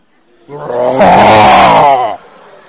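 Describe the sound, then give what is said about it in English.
During a church sermon, a man's voice lets out a single loud, rough roar in imitation of a lion, swelling up and holding for about a second and a half before cutting off abruptly. “Because when you go home, lion.”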